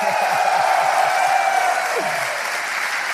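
A crowd applauds steadily, a dense wash of clapping that holds at an even, fairly loud level for a few seconds, with a faint voice or two murmuring underneath.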